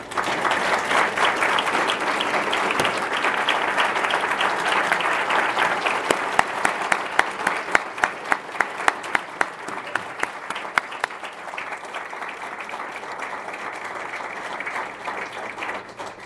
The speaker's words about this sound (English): Would all the honorees and inductees please rise, and let's give them a round of applause as they do so.